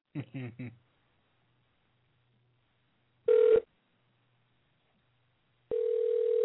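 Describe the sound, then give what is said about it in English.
A brief voice at the start, then an outgoing phone call ringing: a short electronic ring tone, a pause of silence, and a second steady, fairly loud ring tone that continues to the end. “So I'm calling him now? Call him now.”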